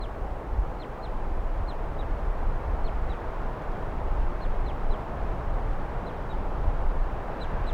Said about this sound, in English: Here's that wild bird giving calls now. It's been giving calls for about a minute or so.